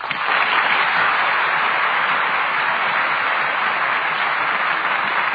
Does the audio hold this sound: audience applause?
yes